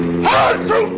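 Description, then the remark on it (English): A single loud sneeze with a drawn-out, rising voiced intake before the sharp burst, standing alone without any talking around it. “I'm going to sneeze.”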